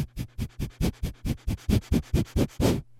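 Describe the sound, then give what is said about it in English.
Rapid, shallow breaths through the nose as an alertness breathing exercise, the breath forced in and out by moving the diaphragm rapidly, about a dozen quick, even puffs in a steady rhythm, each a short airy hiss with no talking. “Take rapid and shallow breaths through your nose.”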